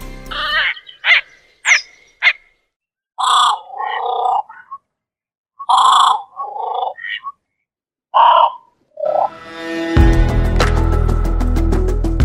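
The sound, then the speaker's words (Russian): A grebe gives a series of short, harsh, croaking calls in uneven bursts, some rising and nasal, with brief pauses between them; music comes in over the last couple of seconds. “Набор звуков у поганки очень богат.”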